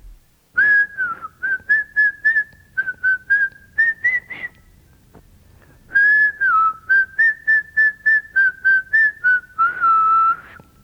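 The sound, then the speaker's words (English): A boy whistles a cheerful tune in short, bouncy notes, playing two phrases with a brief pause between them. The whistling is clear, with no talking. “Listen to the sound of the boy whistling a tune.”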